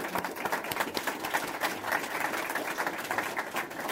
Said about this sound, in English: So it's been an honor for us, and I hope you all join me in a round of applause for the General.